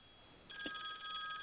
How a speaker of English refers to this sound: I hear somebody's cell phone. Okay. I think that's a cell phone.